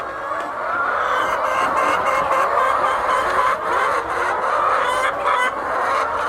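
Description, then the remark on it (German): A dense, continuous chorus of clucking from thousands of chickens pecking feed from large troughs fills a huge barn at Amas Farm, a poultry farm near Accra, steady and loud throughout with no gaps, individual calls blurring into one murmuring wall of sound. “Geflügelfarmer Augustin Amankwa steht mitten in einem riesigen Stall. Tausende Hühner picken Futter aus großen Trögen.”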